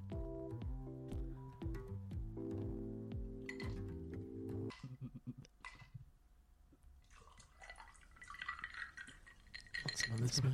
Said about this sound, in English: Want some of this? A screwdriver? Want some of this? I don't want it. I'm pouring another one.